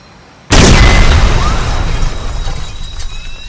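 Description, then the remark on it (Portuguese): An explosion in a film soundtrack, played very loud at home on a home theater system at full volume: a sudden, loud blast bursts out of near silence, a deep booming explosion whose rumbling roar and crackling debris slowly fade over the next few seconds. “Na hora que tem aquela explosão assim, ela falou, que susto.”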